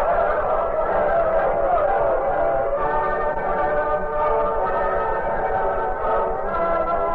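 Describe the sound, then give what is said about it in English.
A fired steam locomotive getting underway with a freshly made-up train, men on board, heading east; loud, its steady chugging rumble layered with a sustained, wavering whistle tone that holds throughout, with no voices. “As fast as possible, a train was made up and the locomotive fired.”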